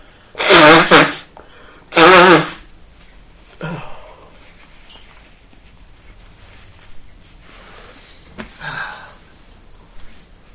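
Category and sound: human body sound, sneeze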